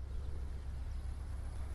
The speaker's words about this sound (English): There's hardly anything there, right? Because that's the sound of a hybrid car. Hybrid cars curb carbon emissions, they get better mileage, and they also lower the decibel level.